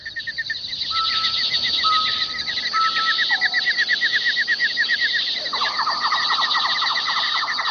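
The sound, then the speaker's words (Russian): Dense chorus of birds chirping steadily throughout in a forest, rapid repeated high notes with a few longer whistled tones, fairly loud, against a faint outdoor background with no talking. “Птичий щебет, который улавливало ухо среди прочих звуков леса, где я собирала грибы, внезапно умолк.”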